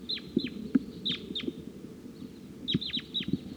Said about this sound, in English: Crossbill's on the scene here. Wild bird up in the tree.